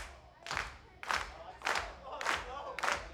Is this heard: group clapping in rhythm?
yes